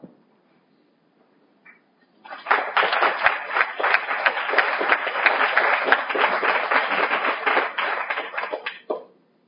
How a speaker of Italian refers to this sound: Io non so se questo applauso voleva dire che lei ha concluso il suo intervento, ma spero di no.